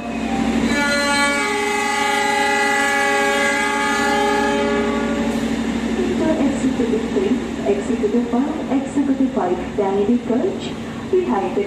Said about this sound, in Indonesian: Lagu daerah Rek Ayu Rek Melaku-Melaku Nan Tunjungan khas kota Surabaya menjadi lagu kedatangan kereta api Argo Wilis dari Bandung di stasiun Surabaya Gubeng Jalur 6.